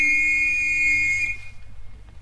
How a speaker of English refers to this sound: Here, hold this whistle and play that note.